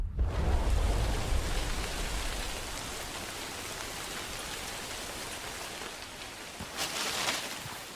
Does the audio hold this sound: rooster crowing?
no